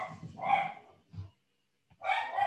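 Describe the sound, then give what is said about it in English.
A dog lets out two sharp, full barks about a second and a half apart as gardeners arrive, with a soft thud in between and no talking around them. “My dogs hate the gardeners.”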